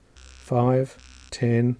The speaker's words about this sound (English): Okay, so remember groups of five for a long buzz. And a single buzz for the actual minutes, if you like.